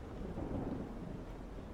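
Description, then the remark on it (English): A low, rolling rumble of thunder blends with the steady hiss of rain falling on a window, all fairly soft and continuous, with no voices. “Listening to the rain on the window. Listening to the thunder.”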